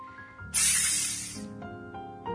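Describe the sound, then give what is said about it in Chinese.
Chopped scallions hit the hot oil in a heated wok with a sudden loud, bright sizzle that hisses steadily for about a second, then fades into a softer crackle over lingering tonal hum. “葱末窜进烧热的油锅，奇怪，怎么不如往日那么香呢？”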